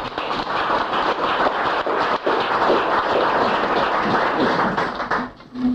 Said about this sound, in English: So I want you to help me welcome her here and give her a warm welcome applause.